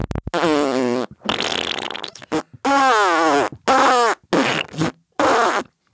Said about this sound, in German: das, was ihr da hört, sind vielleicht die Pupse von einem Hering. Du verkackeierst uns doch. Nein, ohne Mist. Heringe pupsen sich Nachrichten zu. Ganze 5 Sekunden ist so eine Pupsnachricht. Manchmal sogar länger. Gibt's auch verschiedenste Töne von.